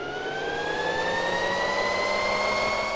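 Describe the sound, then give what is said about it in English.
A high electric motor whine from a Harley-Davidson LiveWire electric motorcycle, steady and fairly loud, its layered tones climbing slowly in pitch as it accelerates over a few seconds, with no voices. “A Harley-Davidson motorcycle has a familiar sound. But the Livewire, Harley's upcoming electric offering, sounds different.”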